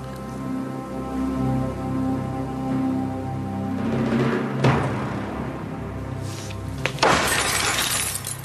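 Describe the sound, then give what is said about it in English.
A woman smashes a glass with her hand: glass shatters loudly, with a sharp crash midway and a second, bigger smash near the end, followed by tinkling shards. A steady, droning musical backdrop plays underneath. “Put the glass down. It's not the answer.”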